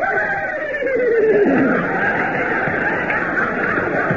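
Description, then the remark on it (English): A horse whinnies in a long, wavering neigh that slides downward in pitch, then trails off into a breathy snort against a steady background hiss. No one speaks. “Now, where's my horse?”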